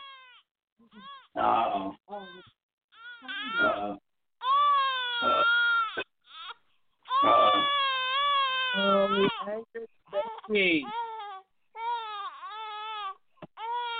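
A baby cries in repeated wailing bursts across the whole stretch, high-pitched and strained with wavering, rising and falling tones, separated by brief gasping pauses.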